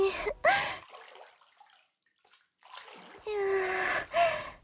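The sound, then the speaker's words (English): Water sloshes and splashes in a full bathtub as one person splashes another, in two fairly loud bursts separated by a quiet pause, with breathy gasps mixed in. “Plus, there's gonna be some mess on the floor already from me splashing you.”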